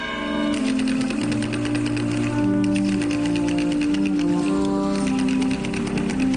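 Wooden ratchet rattles (carracas) clatter loudly and without pause at night during the Procession of the Cristo del Amparo (the procession of the capas pardas) in Zamora, a dense stream of dry, rapid clicks over a steady low tonal hum, with no voices.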